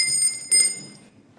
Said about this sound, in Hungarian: Kezdődik az utazás, a csengő már csenget, kívánunk hát jó utat, s hozzá vidám kedvet.